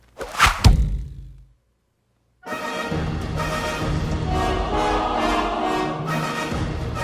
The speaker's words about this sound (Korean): 성 안의 유력자들을 이용하기로 하는데 유방은 현내의 제후들에게 호소하는 글을 써서 화살에 돌돌 말아 성벽 너머로 쏘아 넘겼다.